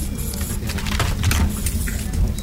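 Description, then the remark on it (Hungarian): Office ambience with keyboard typing: quick, irregular key clicks patter over a steady low hum, continuous, with no voices. “Jó, figyelj, és most tegyél a billentyűzetre is egy kicsit.”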